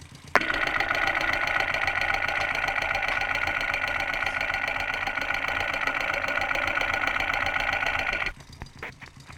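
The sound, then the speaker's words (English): A running engine heard at the exhaust pipes rather than the muffler, a steady, loud mechanical drone with a dense rapid chatter, lasting about eight seconds before cutting off to quieter background noise. “I wonder what the exhaust pipes sound like, not the muffler, but up the engine.”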